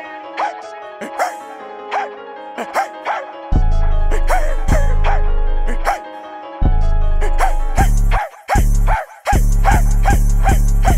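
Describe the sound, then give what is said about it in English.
A person imitates a dog, letting out a rapid series of loud barks and yips that continue steadily while a heavy bass thump joins partway through. “Hell yeah, you already know I bark.”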